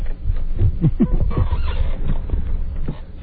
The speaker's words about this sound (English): Let's see if we can get the sound of that latex again.